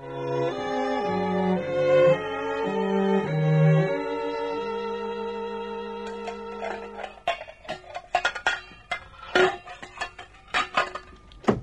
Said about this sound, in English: What are you doing with me pots and pans?